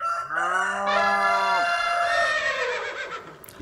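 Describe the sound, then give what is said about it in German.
A rooster crow, cow moo, elephant trumpet and horse whinny all sound at once, layered into one loud, dense burst of animal calls lasting a few seconds, with no talking. “Hahn und Kuh waren dabei. Es war noch der Elefant dabei und das Pferd.”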